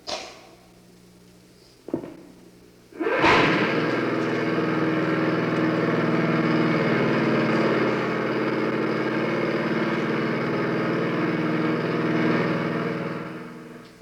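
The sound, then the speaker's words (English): A small lawnmower engine catches after a brief pull and then runs steadily at a loud, even drone, with no voices, until it fades slightly at the end. “The sound of a lawnmower reminds me that it's time to enjoy God's summertime.”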